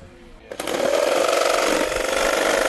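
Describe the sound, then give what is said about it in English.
A power tool switches on abruptly after a quiet moment and runs steadily, a loud, rattling buzz with a droning whine that holds to the end, used by a camp counselor helping another counselor. “has taken out the power tools to help fellow Counselor”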